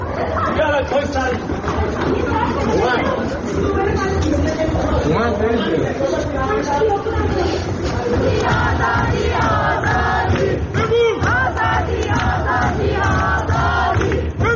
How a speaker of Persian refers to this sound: شهرک اکباتان تهران، حمله نیروهای امنیتی موسوم به لباس شخصی با گلوله های ساچمه‌ای و بمب صوتی به مردمی که تجمع اعتراضی شبانه برگزار کردند.